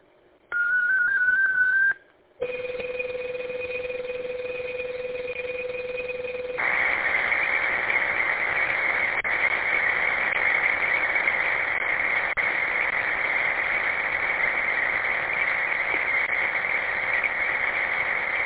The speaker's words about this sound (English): This again will be the MT6320LG format. This is KGTC, stand by for digital traffic.